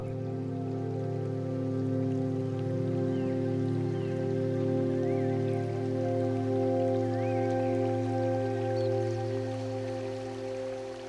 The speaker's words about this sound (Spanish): El sonido del agua fluyendo llena el ambiente.